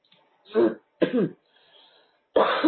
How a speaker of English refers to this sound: Sorry, drinking again to try and stop the coughing attack.